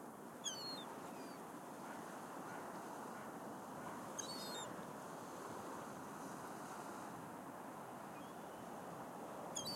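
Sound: seagull calling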